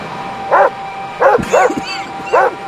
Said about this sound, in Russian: Не беспокойтесь, лекарь. Моя собака вас не укусит.